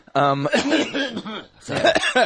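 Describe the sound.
A man loudly clears his throat up close, a rough, voiced rasp that breaks into two gravelly bursts, with a brief pause between them.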